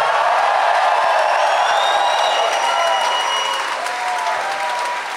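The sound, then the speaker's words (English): Loud, sustained applause from a live audience of about 700 people, with scattered cheers and whistles rising over the dense clapping throughout. “This is a tremendous crowd, 700 people.”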